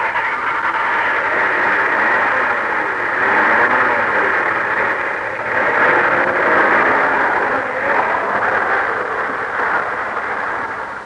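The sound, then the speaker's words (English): A black limousine's engine roars steadily and loudly for several seconds as it speeds away, a dense rushing motor noise that holds without fading, with no voices. “I'll take this piece of chalk here and write my name, Optometrist Man, on the back of this black limousine that's about to speed away from here.”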